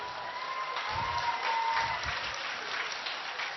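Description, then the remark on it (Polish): Steady audience applause, a dense wash of many hands clapping at an even level throughout, with a faint whistle-like tone drifting through the first half and no talking. “Te oklaski to są oklaski dla naszych obiektywnych mamuś.”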